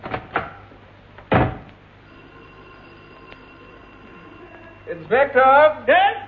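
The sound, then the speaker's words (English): Two quick knocks on a wooden front door, then a single heavier thud, followed by a steady low hum and a voice speaking near the end. “There's somebody at the front door.”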